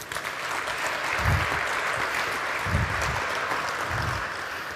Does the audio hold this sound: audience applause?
yes